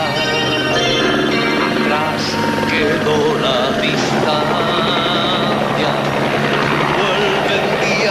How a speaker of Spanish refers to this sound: El helicóptero ese que hay detrás, no sé de dónde sale. Igual volvió el helicóptero. Hombre, normalmente vienen en avión, ¿no? El sonido del helicóptero es chocante, sí, en este anuncio.